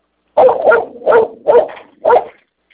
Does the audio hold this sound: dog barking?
yes